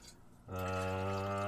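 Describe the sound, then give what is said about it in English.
Water pours steadily into a kettle for a cup of tea after a quiet half-second start, a loud, continuous stream with a ringing, hollow tone as the vessel fills. “Let's see how much water I've got.”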